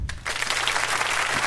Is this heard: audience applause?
yes